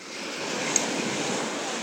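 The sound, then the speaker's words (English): Sea waves wash onto a sandy shore in a steady, broad hiss of surf, close and continuous, with a slight swell midway and no voices, heard in beautiful sunshine while walking on the sand right next to the sea. “Yes, it's beautiful sunshine, we're walking on sand. You're right next to the sea, as you can hear.”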